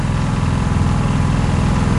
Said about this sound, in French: Oh, c'est formidable quand ça s'arrête. Hein. C'est pour ça que ça a été inventé, le moteur des bateaux, c'est pour ce bonheur qu'on éprouve quand ça s'arrête.